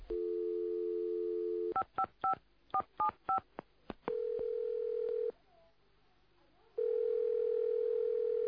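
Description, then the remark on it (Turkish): A steady telephone dial tone hums on a motel line, then about a dozen quick touch-tone beeps dial a number in Texas, followed by long ringing tones separated by a brief quiet gap. No one speaks. “Bir dakika size hat vereyim, öyle arayın kardeşinizi”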